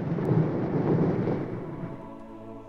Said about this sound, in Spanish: De repente escucharon unos pasos que precedieron a más detonaciones.